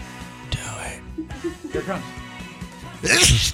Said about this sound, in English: We don't get to hear you after we hear you ramp up. Sorry about that. You might as well say, I've got to sneeze again. You might as well mute a punchline.